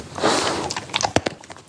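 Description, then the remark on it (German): A dog, Bernie, sniffs with its nose to find a biscuit in quick, breathy snuffles. A sustained hiss of air gives way to a few short, sharp taps and clicks. The sound is moderately loud, with no voices. “Hier hört ihr meinen Hund Bernie, der mit seiner Nase einen Keks findet und mit seiner Leistung sehr, sehr zufrieden ist.”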